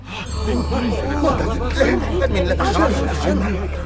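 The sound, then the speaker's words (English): A dumbfounded crowd discusses among themselves, many voices murmuring and talking over one another at once, a steady babble of indistinct conversation with no single speaker standing out, and a low hum beneath. “They were all so dumbfounded that they kept discussing it among themselves.”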